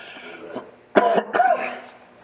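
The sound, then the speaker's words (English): A couple of harsh coughs from a person teaching while suffering from allergies burst out in quick succession, the second rougher and slightly throaty, over a faint steady hum. “Devil doesn't want me teaching this, but I'm going to teach through the cough and teach through the allergies and all.”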